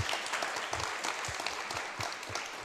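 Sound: applause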